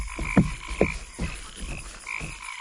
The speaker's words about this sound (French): Ces grenouilles me vexent l'esprit. Écrase celle-là.